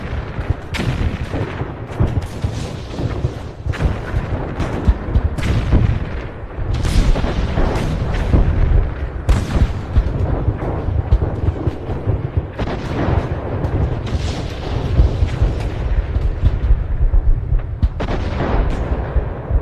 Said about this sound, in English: So you'll hear shelling, and then it'll stop. And it's just so eerie because you hear birds come in at the end. Mm. And the birds are obviously silent during the shelling, but listen to this. This is a minute before the end of World War I.